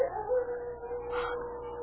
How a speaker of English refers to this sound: That's a wolf.